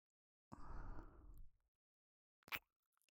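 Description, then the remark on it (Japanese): A soft, breathy exhale blown right up close to the ear, lasting about a second, followed moments later by a brief, sharper puff of air. No one speaks. “そうですよ、私たちはご主人様に気持ちよくなってもらうために、耳元で吐息を吹きかけて、真っ白って言ってるだけですから。”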